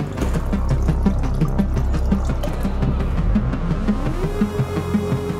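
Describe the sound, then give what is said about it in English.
Treated water runs and pours steadily from a solar-powered machine that turns toilet waste water into clean water, a continuous splashing stream over a low mechanical hum that shifts upward in pitch near the end. No one speaks. “It'll go into the machine, and then using solar power, we can turn the poopy water into clean water.”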